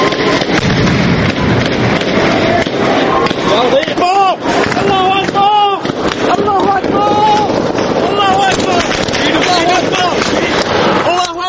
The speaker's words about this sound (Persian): سیاه میشه و فقط صداهاست که شنیده میشن. صدای گلوله و فریاد مردم.